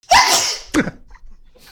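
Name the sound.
sneeze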